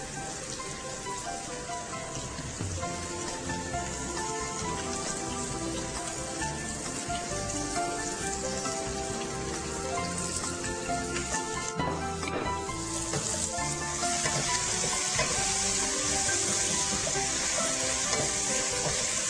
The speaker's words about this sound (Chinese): 好，糖色上了完整之后呢，我们把我们的葱跟姜，尤其是这个葱白。的部分啊，要下去爆香。